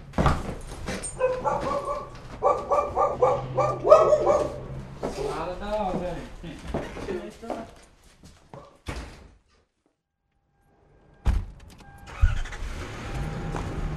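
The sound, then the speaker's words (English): A couple of dogs bark in quick repeated bursts in the next yard, heard from a back porch, mixed with passing car noise, before a brief quiet stretch and more rumbling. “Now, there are a couple dogs over there, so that's over in the next yard.”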